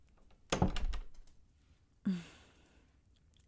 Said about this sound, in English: Close the door behind you, please.